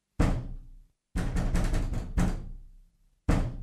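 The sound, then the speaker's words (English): Loud knocking on the wooden door of a coffin shop in the morning, as Noah Claypole demands to be let in: a single heavy thud, then a quick run of several raps, another hard knock, and one more after a pause, each ringing briefly. “Open the door!”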